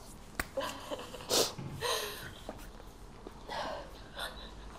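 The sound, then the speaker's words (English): Several short, wet sniffles through a congested, runny nose, spaced irregularly with brief breathy pauses between them, fairly quiet. “I've got to go blow my nose. I've got snot coming out.”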